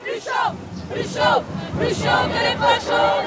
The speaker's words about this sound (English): Big crowds turned out in the rain here last night to demand better treatment for migrants in Europe.